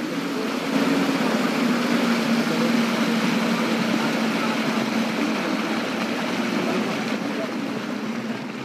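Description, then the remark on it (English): A motorboat engine runs steadily for the whole clip in Kalimantan, Borneo, heading for Paduran Village, a constant droning hum with a low tone over a wash of broad, hissing noise that never lets up. “Well, back on the motorboat, I headed for our next stop, Paduran Village”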